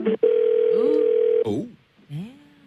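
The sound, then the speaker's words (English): A steady, continuous telephone line tone hums for just over a second, fairly loud, while a man talks over it, as a call to a 7-Eleven hotline connects after he presses 2; the tone cuts off abruptly and his speech continues afterward. “connecting us to someone already, I guess.”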